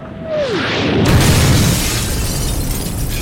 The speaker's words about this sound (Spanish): El meteorito penetró con gran fuerza en la atmósfera. Al rato todo fue llanto, dolor y destrucción.